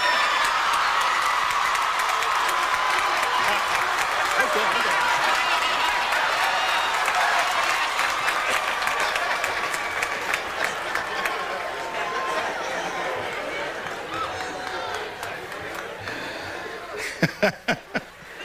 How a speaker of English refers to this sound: I respond to audience reaction. If you are appreciative and applaud loudly very early on, you get a nice short speech.